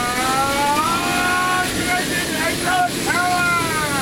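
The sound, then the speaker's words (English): Steady, loud drone of turboprop engines idling inside the cockpit of Fat Albert, the Blue Angels' C-130 logistics plane, in La Crosse as a captain prepares the crew for takeoff, with high whining tones that waver and rise and fall over a constant rumbling roar. “In the cockpit of Fat Albert, a C-130 that's the Blue Angels logistics plane, a captain prepares the crew for takeoff.”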